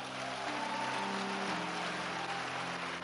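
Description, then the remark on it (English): An audience claps steadily for about three seconds for their pastor, a dense, even wash of many hands with no talking, while soft sustained musical tones hum underneath. “Nobody is going to keep clapping for you indefinitely for nothing.”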